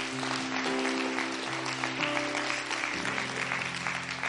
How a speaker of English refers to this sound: Why don't we clap our hands once again to a great God?